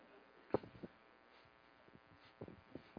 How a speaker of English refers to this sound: Sorry, I'm listening to the frog.